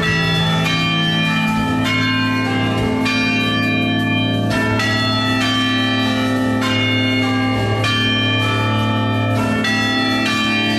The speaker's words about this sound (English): The other thing I want to play for you, these are people on those church bells. You know how they ring the church bells?